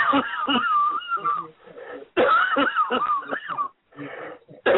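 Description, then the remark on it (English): Deep, forceful coughing, as someone takes a deep cough to cough it out, comes in two loud bursts, harsh and wheezy with strained, raspy voicing, followed by softer scattered hacking. “Now take a deep cough and cough it out.”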